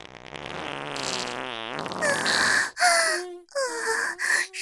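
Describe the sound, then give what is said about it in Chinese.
A long, loud fart: a low buzzing stretch that rises in pitch, then breaks into several squeaky, sputtering bursts before ending. No one speaks. “不行，又要放屁了。”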